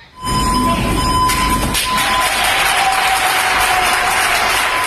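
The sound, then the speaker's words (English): Doctors and nurses at a hospital in Barcelona, Spain, clap together for a cleaning crew in sustained, dense applause that starts abruptly and continues steadily, loud and enthusiastic, with a faint high tone running underneath and no talking. “At a hospital in Barcelona, Spain, doctors and nurses surprised a cleaning crew with a warm round of applause.”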